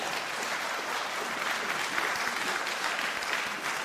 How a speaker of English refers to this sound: Give that man a round of applause.